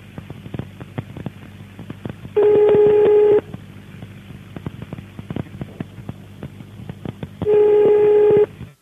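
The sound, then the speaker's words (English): A telephone line, called in the hope of a time announcement, beeps twice, each a loud, steady, mid-pitched tone lasting about a second, spaced several seconds apart over a crackly, clicking line hiss. “But I guess it's not gonna do anything. It's just gonna beep.”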